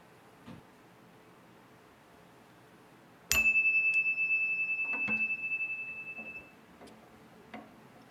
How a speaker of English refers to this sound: We'll now have a moment of silent meditation. I'll ring the chime. We will have some silence, and then I will ring the chime again to end this time of silence.